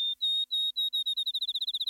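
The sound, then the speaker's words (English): A field sparrow sings a series of clear, high whistled notes that start slow and evenly spaced, then speed up into a rapid trill, like a bouncing ball. No one speaks. “Field sparrows aren't as common today as they were in Aldo Leopold's day”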